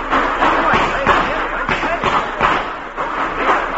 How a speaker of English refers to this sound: Oh, what is that? Gee, this is a smart car. It's doing the knocking for you. I say, what's coming off here? Maybe the wheels are.